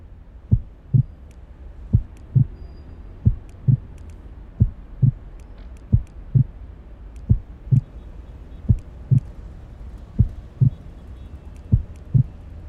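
A steady, low heartbeat thumps in paired lub-dub beats, repeating evenly about once every second and a half, clear over a soft background hum with no voices.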